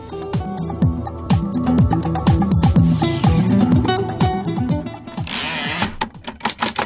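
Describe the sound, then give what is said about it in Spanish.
Typewriter keys clack rapidly in an irregular, busy rhythm, loud and continuous, with a brief rasping slide near the end before a few final strikes. “A golpe de tecla, a golpe de máquina de escribir, se forjó la historia de las mujeres periodistas en México.”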